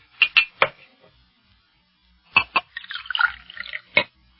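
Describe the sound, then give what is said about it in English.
A few sharp clinks of glass, a pause, then a short splashy pour of water into a glass lasting about a second, ending with another clink. Fairly quiet, with no voices. “Hey, look, may I have a glass of water if I've got to go into such a lengthy discussion? I'll get you one.”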